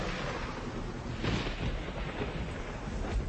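Heavy rain drums steadily on a roof, a dense, continuous roar with a deep rumbling undertone, swelling slightly now and then. No voices.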